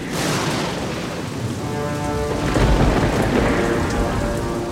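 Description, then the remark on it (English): Steady, heavy rain pours down during a storm at night, with a deep rumble of thunder swelling midway and lingering beneath the downpour. No voices are present. “There is a storm that night.”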